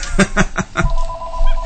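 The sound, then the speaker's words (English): A mobile phone that announces who is calling rings with four quick, evenly spaced electronic chirps, then a steady sustained tone that holds for the rest of the moment. “I have a phone that announces who's calling when they call”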